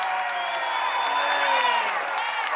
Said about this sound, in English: Traveling violation on Tika Thompson, and the Morningside fans give the official a round of applause. They thought maybe Tika got away with two or three of them here in the second half.